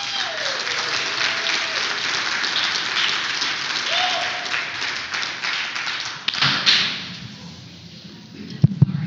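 A crowd applauds with dense, steady clapping that holds at an even level for about six seconds, then thins out and fades as a few scattered claps and a faint voice remain.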